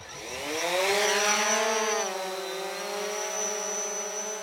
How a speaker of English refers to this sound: slowly hovers the drone toward a roost.